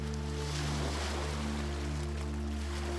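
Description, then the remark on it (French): Soft, continuous wash of gentle ocean waves rolling onto shore, heard steadily throughout over a constant low droning hum, with no voices present. “Attentivement le doux murmure des vagues. Elle s'échoue sur les rivages dans une symphonie naturelle et rythmée.”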